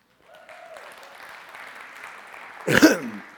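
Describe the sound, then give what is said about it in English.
An audience applauds a man speaking about his 40 years of marriage, with a steady, dense patter of clapping that gradually swells, ending in a sudden louder burst of noise before it fades. “You can applaud for me when I'm dead.”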